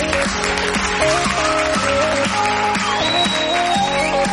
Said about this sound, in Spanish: ¡Qué alegría! Muchas gracias por esos aplausos, gracias de verdad.